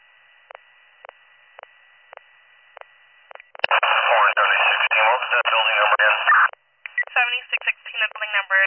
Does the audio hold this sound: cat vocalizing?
no